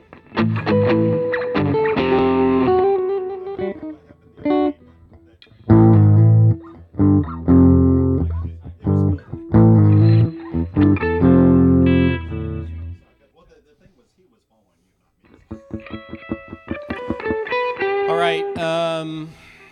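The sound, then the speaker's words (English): Distorted electric guitar plays loud, gritty chords in choppy bursts separated by brief pauses, then drops out for a moment before returning with a brighter, thinner riff near the end. “You're putting distortion on the chorus, right?”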